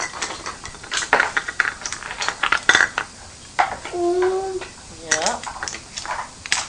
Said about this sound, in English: And dishes.